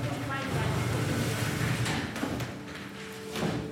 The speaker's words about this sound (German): Ein ganz normales Klassenzimmer. Auftritt, die Oberstufe der Theatergruppe des Nürnberger Melanchthon-Gymnasiums und ein Lehrer. Sie rücken Stühle und Tische zurecht.